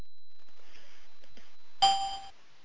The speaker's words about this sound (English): I set it up this time to beep with bells when somebody comes in, but not when they leave.